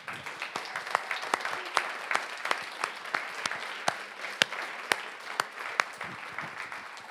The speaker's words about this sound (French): Et puis, j'aimerais qu'on puisse vraiment être reconnaissant puis applaudir le Seigneur pour terminer ce moment.